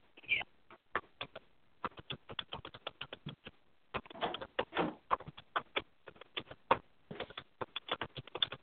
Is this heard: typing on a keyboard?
yes